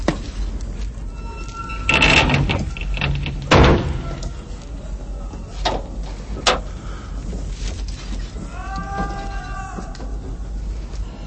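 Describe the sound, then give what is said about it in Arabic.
A door is pushed shut with a couple of heavy thuds and a short rattling slide, followed by a quieter room tone and faint, brief vocal sounds near the end. “أغلق الباب.”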